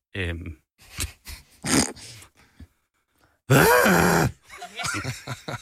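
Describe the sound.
A run of animal calls, sheep bleats and a horse's whinny, with low grunting and groaning voices, then a loud, drawn-out wavering cry followed by more short throaty sounds.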